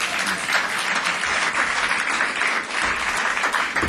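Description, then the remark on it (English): A crowd gives light applause for a singer, a figure of the outlaw movement in country music, at a live show; a dense patter of many hands clapping at even loudness for the whole stretch, with no voices on top. “Let's have a little light applause for …, if we can.”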